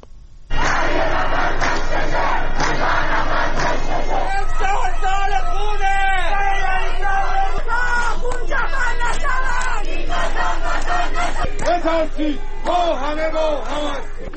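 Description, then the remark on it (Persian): A large crowd of citizens gathered in front of Rajaei Shahr prison in Karaj shouts and chants slogans together in loud, rhythmic bursts of raised voices, with a constant roar of babble and cries running underneath throughout. “در همین حال خبرها از ترافیک سنگین در خیابان‌های منتهی به زندان و تجمع شهروندان در مقابل زندان حکایت داشت که در حال شعار دادن بودند.”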